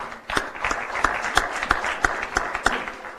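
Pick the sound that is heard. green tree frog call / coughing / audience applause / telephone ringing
audience applause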